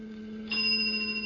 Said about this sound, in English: A moment until the bell sound.